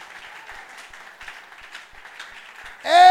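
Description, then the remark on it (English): A crowd claps for Jesus in a sustained, dense patter of many hands, moderately loud and steady, before a loud sung or spoken voice cuts in at the very end. “Acclame pour Jésus. Clap for Jesus.”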